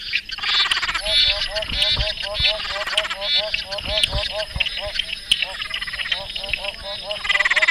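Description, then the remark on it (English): A dense chorus of frogs calling, a recording from the Frog ID app, with rapid repeated croaks and chirps layered over one another, steady and fairly loud throughout, with a faint breezy hiss underneath. “The Frog ID app is currently only available in Australia, but you can listen to the recorded calls online at frogid.net.au.”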